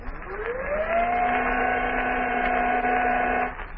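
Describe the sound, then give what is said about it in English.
An electric 'black beam' powers up with a quickly rising whine, switched on to short the motors of a yacht, then settles into a steady, loud buzzing hum with layered overtones that holds for about three seconds before cutting off. “Turn on the black beam. Short the motors.”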